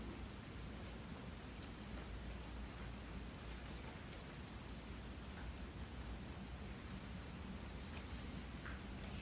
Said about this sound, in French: La pluie est entendue.